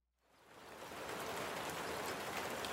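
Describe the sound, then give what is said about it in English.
Steady rain hisses down on an afternoon in St. Catharines, a Toronto suburb, swelling in from silence over the first second into a dense, even patter with scattered drops pattering on a surface, no voices present. “It's a rainy afternoon, and class has just been dismissed at Holy Cross Secondary School in the Toronto suburb of St.”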